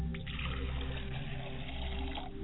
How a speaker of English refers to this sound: And why don't you pour a glass of water as I do? I'm pouring a glass of water for my Father's spirit.